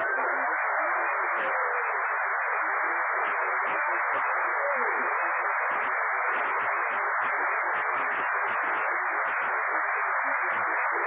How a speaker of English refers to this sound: Everybody on the street is applauding. They all like Lucky Strike.